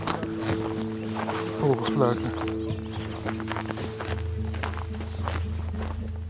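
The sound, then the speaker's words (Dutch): Steady footsteps crunch through snow at an even walking pace across a snowy landscape as the sun comes through, over a low sustained musical drone, with a brief vocal-like glide partway through. “Over het sneeuwlandschap lopen we nu ergens heen.”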